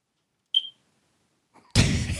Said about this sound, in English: That should be like every time we hear the smoke alarm beep, it's like a top. We have to stop and change topic right then.